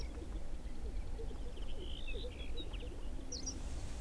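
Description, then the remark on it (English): Faint birds displaying at a lek in a grassy open patch of sagebrush about 250 yards from a dirt road call and chirp at sunrise, with soft low bubbling and popping sounds beneath a steady background hush. “The LEK is about 250 yards from the road where we're parked, so it's hard to hear the birds, but I can just barely see them.”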